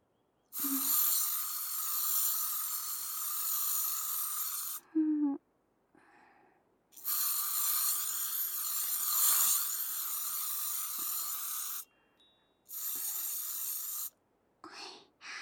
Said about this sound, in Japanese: 隙間ができないようにきっちり、あとでケープをお掃除しやすくしたいから静電気防止スプレー吹いちゃいますね。一応、目とお口、閉じててください。